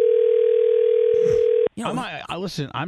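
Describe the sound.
A steady, humming telephone dial tone as a call is placed during an on-air broadcast holds for under two seconds, then cuts off abruptly as a person starts talking.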